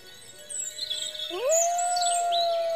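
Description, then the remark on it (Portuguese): A lone wolf howl swells upward and holds a long, steady note to the end, fairly loud, while birds chirp faintly in the background. “Um dia andavam os três porquinhos a saltar, muito divertidos, quando apareceu o lobo mau.”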